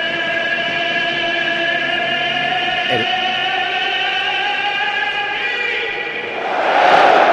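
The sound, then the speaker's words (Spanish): A packed football stadium crowd at 'la catedral', with the stands full, sings in a loud, sustained droning chant that holds steady, then swells into a broader, louder roar of cheering at the end. “Bueno, luego lo contamos porque hay que escuchar a la catedral.”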